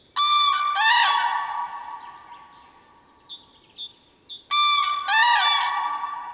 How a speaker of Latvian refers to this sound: Ar skaļām un tālu dzirdamām klaigām tie izziņo savu ierašanos laukos, mežos un purvos. Apbrīnojami saskaņot ir arī dzērvi trompetēšana duetā.